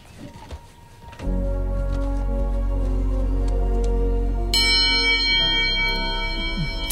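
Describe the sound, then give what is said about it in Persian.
A large bell is struck by contestants finishing a timed challenge and rings out loudly, its deep resonant tone sustaining with rich overtones, then a brighter second strike adds a shimmering higher layer as the ringing continues. “آره و اینا اولین 3 نفری بودن که زنگو زدن.”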